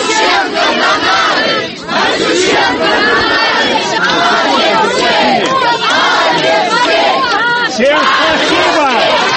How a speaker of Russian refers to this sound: Люди, пришедшие поддержать предпринимателя, приветствовали его аплодисментами.